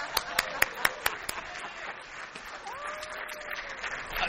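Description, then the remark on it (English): Applause with several sharp, loud claps at the start, fading into a dense crackling wash of clapping, with a brief rising whistle partway through. “Scene. Pearl. Applause.”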